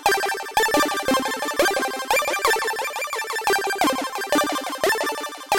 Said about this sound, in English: I'm actually controlling the VCA with another CV, stepped CV, from the swamp. So the envelope is at varying levels, essentially. That's going to control the level of the sine wave, and that's going into the pulse width modulation on the Even VCO.